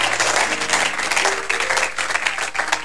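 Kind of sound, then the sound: crowd, audience clapping hands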